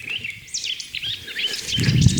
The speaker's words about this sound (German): Singdrossel. Ah, die hat bis zu 100 Motive, imitiert auch sehr viel. Hat mal rhythmische Motive, mal melodische. Wiederholt die einzelnen Motive dann. Die Singdrossel haben wir früher mal Wiederholer genannt.